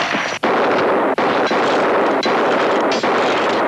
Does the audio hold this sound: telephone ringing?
no